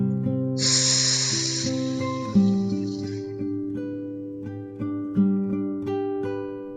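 A strong, breathy gust of air is blown out for about a second as someone inflates a balloon after a deep breath, then trails off into a softer hiss, over a steady backdrop of gentle, sustained instrumental music.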